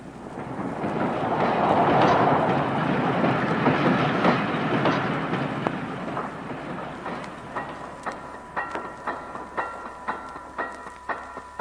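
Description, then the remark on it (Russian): An Odesa–Moscow express passenger train arrives on track 7 at a station with a broad rumbling roar that gradually eases, then settles into a slowing series of rhythmic wheel clacks and squealing tones as it nears a stop. No one speaks. “Скорый поезд Одесса-Москва прибывает на 7-й путь.”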